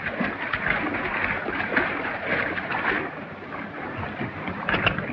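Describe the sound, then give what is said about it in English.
Continuous churning splashes of water as a gang of renegade riders enters a river, a dense rushing wash that stays steady for the whole stretch, with no voices. “Leaving Zanti, his men enter the water.”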